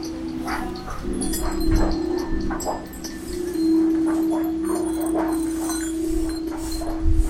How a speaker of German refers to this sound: Die Granitplattenstücke legt er jetzt auf ein schlangenförmig gewundenes Seil.